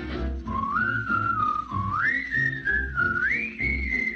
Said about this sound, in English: Give a little whistle. Give a little whistle. Give a little whistle. Give a little whistle. Not just a little squeak. Pucker up and blow.